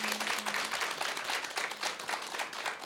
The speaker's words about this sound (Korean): 어, 진짜 이 한국 음악의 한국 CCM의 보물 같은 우리 …가 계속해서 그 아름다운 경주를 또 만들어내고 또 아름다운 그릇이 하나님 앞에서 보시기에 잘 쓰일 수 있도록 우리 큰 박수와 환호로 응원해드렸으면 좋겠습니다.